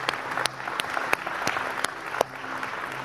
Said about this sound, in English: Give the Lord a clap offering today.